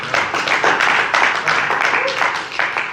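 A crowd bursts into steady applause, many hands clapping at once in a dense, loud patter that holds level for the whole stretch with no voices standing out.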